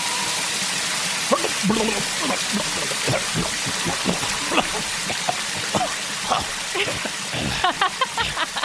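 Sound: rain falling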